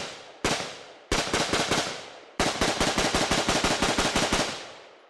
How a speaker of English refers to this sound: The AR-15, which is essentially the military's M-16, Campbell uses to hunt feral hogs. We go out back, and the judge lets fly with the semi-automatic.